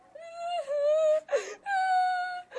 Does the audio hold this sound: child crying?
yes